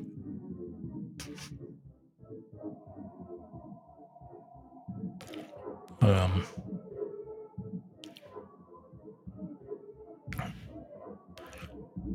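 Soft snoring with low, rumbling breaths repeating every few seconds, broken by a few sharper snorts. No one speaks.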